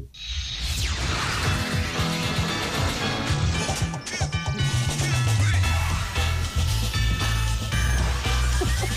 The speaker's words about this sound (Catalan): Ah, Futurama, el que estem sentint és la careta de Futurama, que sabíem que li agradava.